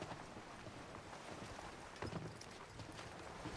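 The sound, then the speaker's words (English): A boat carrying scuba divers rocks on the ocean: a steady, soft wash of water and wind with scattered light knocks and thuds against the hull, fairly quiet, with no one talking. “Scuba divers on a boat.”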